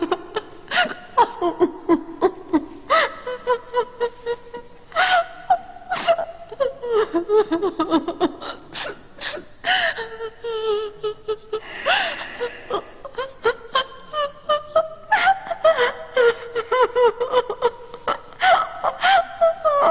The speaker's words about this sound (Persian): معلوم هست این دختر چشه؟ جدن نفهمیدی؟ چقدر خنگی داره برای ابن رشد گریه میکنه دیگه؟